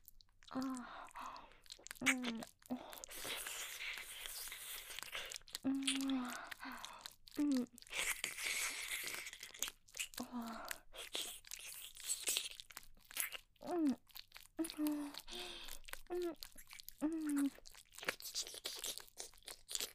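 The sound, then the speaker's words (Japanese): Wet mouth sounds of ear licking and smacking, with sticky clicks and slurps coming in irregular bursts for the whole stretch, with soft breathy vocal murmurs between them. “耳舐めてもらうだけでシコシコできて、お射精気分高まってきちゃうの、えらいですね。”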